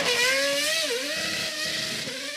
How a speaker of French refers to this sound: Lorsqu'elle parvint à son véhicule, une nuée de prestataires se jetèrent sur elle pour récupérer les vêtements, les accessoires, les badges et les passes, ainsi que la Ferrari Sim qui s'éloigna sans elle en ronflant.